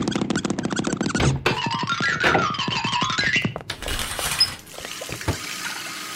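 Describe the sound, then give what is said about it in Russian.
A squeaky tap is turned, followed by a steady rush of water pouring into a bathtub to fill it, moderately loud, with no voices. “Надо набрать воды в ванну.”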